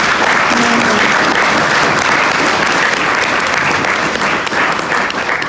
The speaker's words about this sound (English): So thank you so much for sharing that. Give her a clap. Thank you.